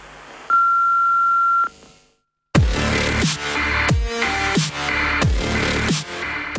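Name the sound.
answering machine beep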